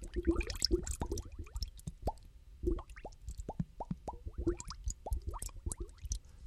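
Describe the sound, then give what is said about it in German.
Wet bubbling and gurgling with a quick run of plopping pops as a hippo dives into a murky river, air escaping underwater, continuing irregularly throughout without any voices. “Das Omi Nilpferd holt tief Luft und taucht zum Überlegen wieder in den trüben Fluss.”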